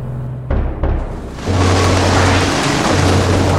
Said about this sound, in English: Are you sure this storm is going to pass? We've plotted a course that avoids the worst of it. There's no need to worry.